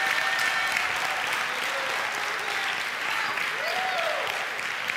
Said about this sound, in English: If you believe that, give the Lord a clap of praise for the next 30 seconds.